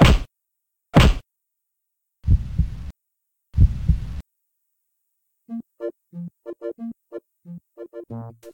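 Four heavy thumps, two sharp and two longer and muffled, from chest compressions given as heart massage, give way to a quick, steady run of short tonal pulses as the pulse starts up again. No one speaks.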